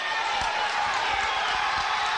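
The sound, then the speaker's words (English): A loud, steady roar of a Galesburg basketball crowd on its feet during a late free throw fills a gym, dense cheering and yelling with faint thumps underneath, sustained throughout without a break. “Crowd gets up. A lot of noise from this Galesburg crowd.”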